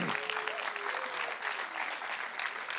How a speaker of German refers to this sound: Ein kleiner Schritt für einen Menschen, aber ein großer Schritt für die Menschheit. Top, Applaus.